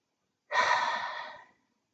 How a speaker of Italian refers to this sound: Allora adesso proviamo a fare qualche respiro profondo e ad allungare l'espirazione, in modo da svuotare bene i polmoni. Giusto 3 respiri.